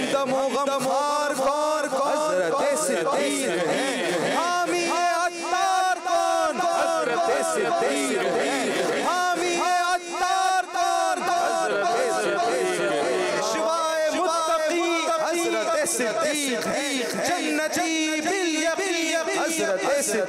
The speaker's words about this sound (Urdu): سنتوں بھرے بیان سے قبل جلوس صدیق کیا نکالا گیا، جس میں خلیفہ امیر اہل سنت کے ہمراہ ذمہ دار اسلامی بھائیوں اور دیگر عاشقان رسول نے شرکت کی اور نعرے بھی لگائے